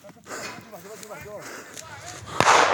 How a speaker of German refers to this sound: Dann fällt ein Schuss.